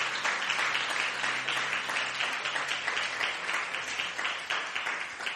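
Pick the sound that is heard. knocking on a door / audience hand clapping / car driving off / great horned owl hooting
audience hand clapping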